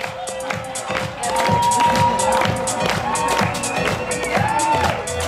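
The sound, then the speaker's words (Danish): A large fashion show audience claps and cheers loudly and continuously as models of many sizes dance on the catwalk, with whoops and excited shouts rising above a dense wash of applause, lively throughout. “Og i stedet for kølige blikke, er der simpelthen bare klap og huden for publikum, som man kan høre her.”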